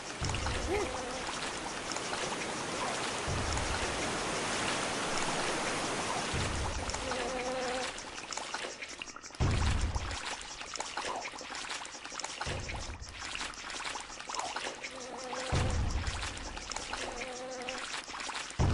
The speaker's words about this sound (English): Stupid flies buzzing everywhere.